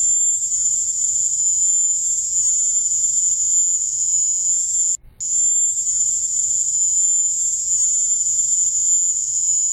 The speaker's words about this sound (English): Let me get that on, because we got to hear the mating sounds of crickets. This is soundbite number three, the sounds of Havana syndrome or crickets. Take a listen.